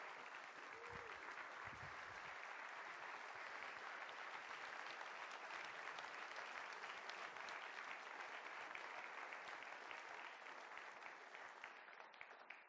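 An audience claps steadily for about thirteen seconds, a dense, even wash of many hands at a constant loud level with no voices heard, tapering slightly at the very end.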